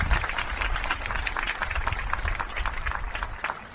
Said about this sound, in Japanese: そして改めて3名の皆さんの健闘をたたえて大きな拍手をよろしくお願いいたします。